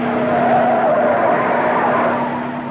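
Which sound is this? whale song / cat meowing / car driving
car driving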